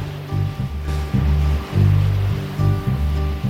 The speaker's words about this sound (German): Ich höre schon das Meer rauschen.